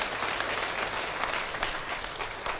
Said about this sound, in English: If anyone understands what I'm saying, give the Lord a huge clap in this place. Come on.